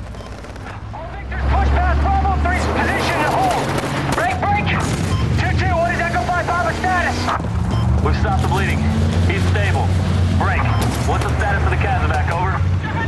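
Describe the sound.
Scattered gunshots crack through a dense, chaotic battle din as a gunman runs onto a road and fires and Marines keep firing while their vehicles pull out, with a deep engine-like rumble underneath and voices shouting throughout, loud.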